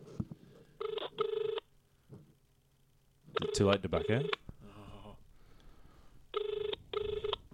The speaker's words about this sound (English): 1, 2, 3. Let's see who we're ringing here.